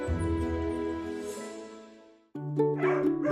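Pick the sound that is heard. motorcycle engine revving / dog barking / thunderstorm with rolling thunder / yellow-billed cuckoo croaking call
dog barking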